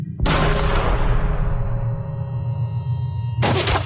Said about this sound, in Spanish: Su tropa lo imitó y el sonido de los fusiles Mauser retumbó contra el local. En medio de las ráfagas se escuchaban los gritos de ¡viva la anarquía!, que eran acallados con nuevas descargas.